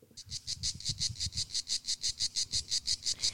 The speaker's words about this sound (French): On est en Provence. On entend les cigales. Si, si, écoutez.